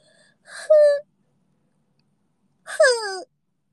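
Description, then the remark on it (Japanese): Two short, loud vocal yawns about two seconds apart, each starting with a breathy intake and sliding into a falling, voiced moan, with silence around them. “大声あくび。”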